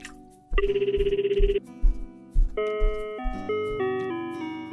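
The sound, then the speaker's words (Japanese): A phone rings during an outgoing call to a grandmother, with a bright, buzzy electronic trill that cuts off, followed by a short melodic tone sequence, all clear with no one speaking. “ごめんね、急に電話して。”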